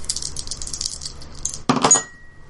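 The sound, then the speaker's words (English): A handful of dice clatter and rattle across a hard tabletop, a dense burst of small clicks and knocks that ends with a brief settling jingle, preceded by soft shuffling rattles. “Oh, that's a 9. You had a lot of dice.”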